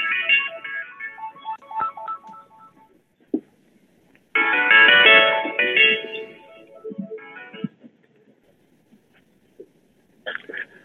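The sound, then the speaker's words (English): A phone rings with an incoming call, a melodic, electronic ringtone playing in loud bursts separated by short pauses, with a faint thump and some background rustling between rings. “There's somebody making a call.”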